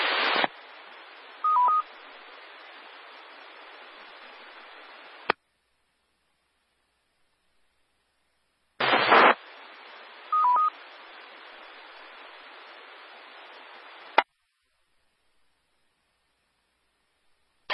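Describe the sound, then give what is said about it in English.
Two separate bursts of steady radio hiss on the Central Carolina Skywarn radio net, each opening with a loud crackle and carrying a brief double beep midway, then cutting off abruptly into silence. The net tones are left on air for storm damage reports during a severe thunderstorm warning. No voices. “This is NC4VA for Central Carolina Skywarn, and I'm going to leave the tones up for just a little bit in case someone has a storm damage report.”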